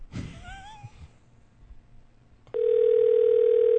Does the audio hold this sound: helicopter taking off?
no